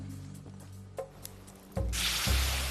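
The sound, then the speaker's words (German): A few clunks and knocks, then a sudden loud, broad hissing sizzle as campfire-heated stones are dropped into a bowl of stream water, continuing steadily with bubbling underneath as the water boils. “Die Steine, die wir im Lagerfeuer erhitzen, kommen direkt in die Schale.”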